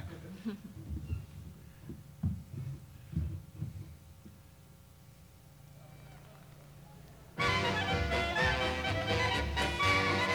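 A polka recording builds up: soft, irregular low thumps and bass beats give way after about seven seconds to a sudden burst of loud, full-band music that carries steadily to the end.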